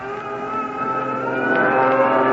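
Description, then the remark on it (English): A fighter plane's engine roars as it takes off, a steady, buzzing drone with layered tones that swells slightly louder over a couple of seconds, with no voices. “There goes our first fighter plane.”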